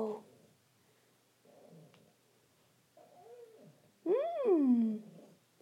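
A cat lets out one loud, drawn-out meow, rising then sliding down in pitch, after a few soft, faint little vocal sounds.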